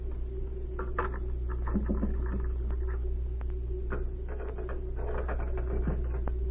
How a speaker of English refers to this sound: I'll look through his desk first. It's locked. Perhaps one of these skeleton keys Z gave me will work.